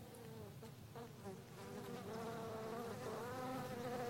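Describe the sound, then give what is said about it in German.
A steady, dense buzzing of many honeybees swarming around their hive, a continuous droning hum that swells slightly louder partway through, with no voices. “Schauen Sie mal genau hin. Entdecken Sie eine Biene mit gelben Hinterbeinen?”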